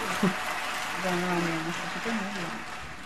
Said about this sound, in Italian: Io applaudo, applaudo anch'io.